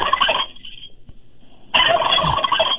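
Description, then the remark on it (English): Two loud, close turkey gobbles from a turkey call, each a rapid rattling burst: a short one first, then after a brief pause a longer, fuller gobble. No talking. “That's a device. Well, I don't know what to call it. A turkey call.”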